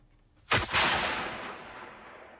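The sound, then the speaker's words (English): A single loud gunshot cracks out across fields in the 13th arrondissement of Paris in the early hours of 30 May 1832, after a moment of quiet, followed by a quick echo and a long reverberant tail that rolls away slowly as if across open ground. “In the early hours of the 30th of May, 1832, a gunshot resounded across the fields in the 13th arrondissement in Paris.”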